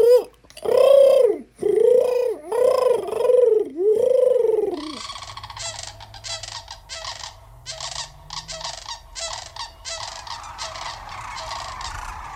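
Red-crowned, four-foot gray cranes trumpet in a run of about five loud, rolling, rising-and-falling calls, then a dense chorus of many cranes bugling and croaking together over a low rumble.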